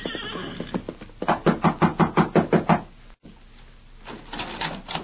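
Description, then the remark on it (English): A quick, steady run of about nine loud knocks on the wooden rear door of a cafe, made by a rider dressed in a prisoner's gray denim, evenly spaced, followed by a pause and faint rustling. “Sometime later, a grim-faced rider dressed in the gray denim of a prisoner flung himself from the back of an exhausted horse and knocked at the rear door of the Rainbow Cafe.”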